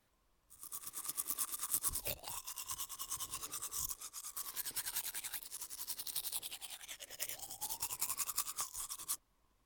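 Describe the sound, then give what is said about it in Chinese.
Someone cleaning their mouth with a toothbrush in a bathroom: a dense, rapid, rhythmic bristly scrubbing that runs steadily for about nine seconds, fairly loud, with no talking. “是，主人，您坐好，您稍等一下，奴先爬着去卫生间漱完口，就来服侍主人。”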